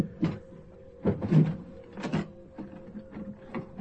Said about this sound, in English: Open the drawer